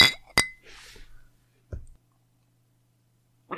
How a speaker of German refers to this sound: Wollen wir mal anstoßen. Anspruchslos. Auf das, was es wert ist. Ja, lass uns anstoßen. Auf das, was es wert ist.